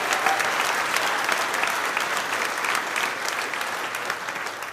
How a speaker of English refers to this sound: And well, we're clapping now, obviously.